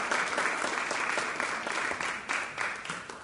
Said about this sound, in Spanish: Un fuerte aplauso para …, que pasa a recibir su premio.